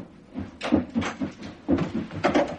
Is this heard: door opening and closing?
yes